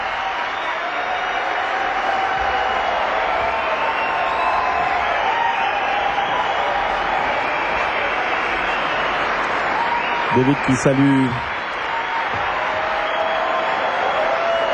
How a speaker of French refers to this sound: la foule en délire.